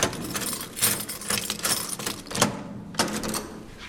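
Keys jangle and metal clicks sharply as locks are turned, with a series of irregular bright rattles and a couple of firmer clunks, no voices.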